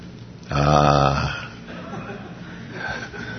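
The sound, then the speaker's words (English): One loud, voiced sneeze bursts out, lasting under a second, then fades into quiet background sound with faint, low murmuring. “Bless you.”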